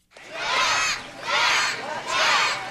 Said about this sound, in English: Here he comes! With cheering kids from the Boys and Girls Club lining Rehoboth Avenue, Markell completed the trip he started on June 18th in Astoria, Oregon.